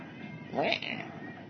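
A single creak from a ship, a short, wavering, mid-pitched groan lasting about a quarter of a second, rising out of a steady murmur of background noise.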